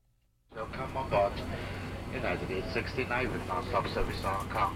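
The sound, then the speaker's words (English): A steady, droning airplane engine rumble with a low hum inside the cabin of a plane in flight to Hong Kong, after a quiet start, while indistinct voices of passengers murmur beneath it throughout. “We're on a plane headed to Hong Kong.”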